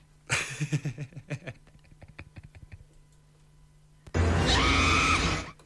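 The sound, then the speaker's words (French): A burst of short shrill cries and a stretch of rapid clicking, then a woman lets out one loud, sustained high-pitched scream for more than a second, piercing. “C'est une meuf comme ça qui crie.”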